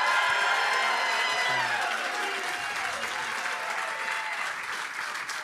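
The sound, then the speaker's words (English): A large crowd applauds loudly and steadily as former Bruins coach Claude Julien and former Bruins captain Patrice Bergeron are introduced, with scattered cheers and whoops rising through the dense clapping, which holds strong for the whole stretch before easing slightly at the end. “All right, the crowd's rowdy, ready to go.”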